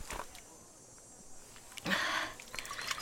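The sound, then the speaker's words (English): A short pour of water splashes for about half a second, followed by faint sips and small liquid sounds. “Here, have some water. It will refresh you.”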